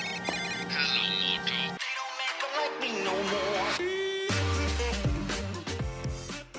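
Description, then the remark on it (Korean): Bright, polished electronic music from a video advertisement for the Motorola Razr foldable smartphone, with chiming synth tones that drop out briefly before a deep bass line and fuller beat come in; no one speaks. “이 밖에 스마트폰 업계의 주요 화두 중 하나인 접이식 화이트폰 광고 영상입니다.”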